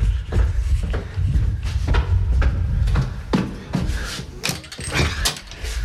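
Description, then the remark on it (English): A door being opened, with a run of sharp clicks, rattles and jangling like keys and a handle working, over a low rumble; no one speaks. “Someone at the door.”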